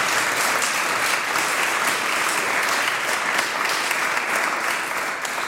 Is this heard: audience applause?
yes